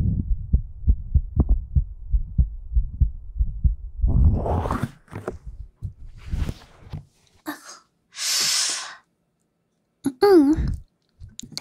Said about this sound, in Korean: 오늘 뭔가 빨리 뛰네. 심장이 엄청 가깝게 뛰고 있는 것 같아. 최고야. 뭔가 따뜻한 기분인 것 같기도 하고. 심장소리가 뭔가 빠른가 봐. 긴장했나?